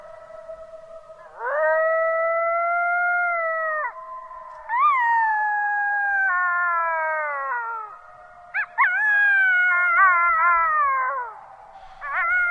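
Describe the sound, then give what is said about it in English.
Coyotes in Yellowstone howling in long, wavering, high-pitched calls that overlap, then breaking into quicker, choppy yips and warbles near the end; loud and clear with no talking. “These are sounds recorded in Yellowstone of coyotes from our next guest.”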